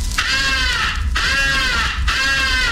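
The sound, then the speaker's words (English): Three long, loud, raspy caws of a ball crow call blown on a crow caller, evenly spaced, each a buzzy harmonic note that holds steady and then drops away, with a faint low rumble underneath. “Ball crow call is sometimes advocated for attracting the attention of distant crows.”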